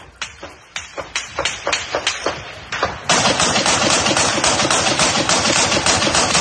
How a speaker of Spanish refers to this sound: Disparos, gritos, explosiones, es desgraciadamente la banda sonora diaria que durante 60 días ha soportado esta ciudad de la que ya prácticamente no queda nada en pie. El estruendo no cesa, cada vez más centrado en torno a la siderúrgica de Azovstal,